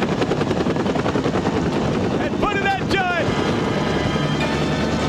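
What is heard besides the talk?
helicopter flying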